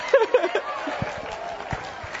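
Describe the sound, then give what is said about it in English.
Sparse, half-hearted clapping from an audience after a song played on guitar, a few scattered claps over a low crowd murmur and some voices, rather than full applause. “Oh, that's sympathy clapping.”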